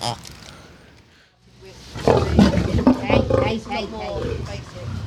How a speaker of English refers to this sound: Now we're just feeding a lion. I'm about 1 meter away. You can probably hear him growling a little bit. Feeding him raw meat. He seems very happy.